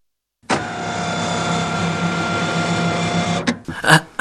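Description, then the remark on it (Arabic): A father's car engine, started with the car keys, kicks in abruptly and runs with a steady, buzzing mechanical drone for about three seconds, then cuts off, followed by a couple of short rattling bursts. “يا للروعة، لقد اشتغل محرك السيارة.”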